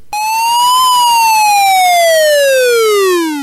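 A loud alarm siren sound effect wails on its own, its tone rising briefly and then sliding steadily downward in pitch over a few seconds.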